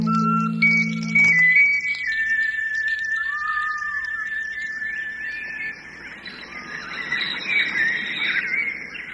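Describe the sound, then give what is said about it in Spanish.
A resplendent quetzal calls with drawn-out, whistled squealing notes that hold steady and waver over a humid Central American forest background, clear, with a brief low hum at the start. “En los bosques húmedos de Centroamérica se esconde uno de los pájaros más bellos del mundo, el Quetzal.”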